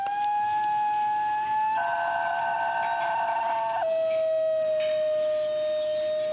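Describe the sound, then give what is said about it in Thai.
A New Guinea singing dog, an ancient wild dog breed native to the island of New Guinea, gives a sustained, tonal howl with strong harmonics. It holds steady pitches and steps abruptly up then down like a wavering siren, continuous for about six seconds with no talking. “สุนัขป่าพันธุ์โบราณซึ่งนักวิจัยของสหรัฐกับอินโดนีเซียรายงานการค้นพบในวารสารวิชาการ Proceedings of the National Academy of Science ครั้งนี้เป็นที่รู้จักกันในชื่อว่านิวกินีซิงกิ้งด็อกซึ่งก็คงไม่ต้องอธิบายกันมากนะครับว่าทำไมถึงตั้งชื่อแบบนั้น”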